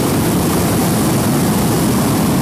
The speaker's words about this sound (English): So I'm going to put one last big burn in so you can hear the real burner.